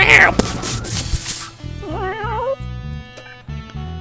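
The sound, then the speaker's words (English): A person imitates a cat with a wavering, rising-and-falling meow in the middle, preceded by a burst of breathy noise. A low rhythmic pulsing continues underneath throughout. “Let's just make cat noises.”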